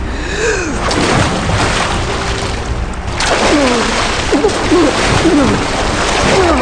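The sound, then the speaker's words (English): Loud, churning water splashes and rushes continuously, a strong river current pulling a swimmer down where the river continues underground, with a brief dip near the middle and short gasping breaths breaking through. “then the river continues underground. I can feel it sucking me down right now.”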